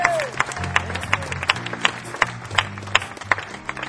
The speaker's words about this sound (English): Nice round of applause on drums and vocals,